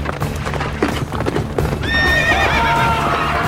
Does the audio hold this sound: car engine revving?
no